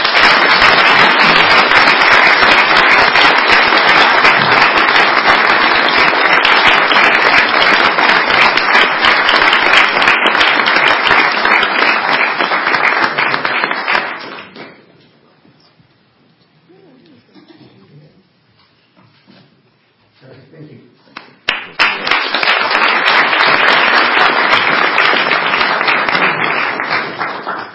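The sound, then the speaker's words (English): A crowd applauds loudly and steadily for about fifteen seconds for a man honored as a customer service hero, falls quiet for several seconds, then bursts into another strong round of clapping. “So let's give him a customer service hero and a big round of applause.”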